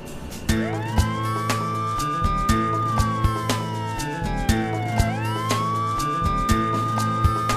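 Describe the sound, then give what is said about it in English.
An ambulance siren wails in long rising and falling sweeps, loud, over a steady rhythmic background with regular beats underneath. “Some people come to the emergency room in an ambulance.”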